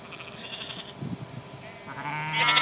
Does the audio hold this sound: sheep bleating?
yes